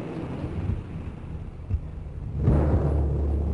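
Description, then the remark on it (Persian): Strong, gusty wind of an approaching storm roars steadily across the whole clip, surging louder and rougher after a couple of seconds. “باد شدید شده، طوفان داره از راه میرسه، کشتی ها بدجوری به هم میخورن، ممکنه آسیب ببینن.”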